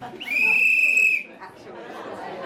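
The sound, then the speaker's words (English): A single sharp, high-pitched whistle blast starts a five-minute round at a speed-dating-style event pairing female marketing professionals with potential employers. It holds steady for about a second, then cuts off as a murmur of many people talking rises underneath. “So there'll be a whistle to start, a whistle at the end of 5 minutes, and we will finish in an hour's time.”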